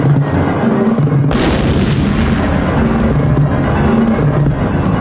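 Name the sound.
bomb explosion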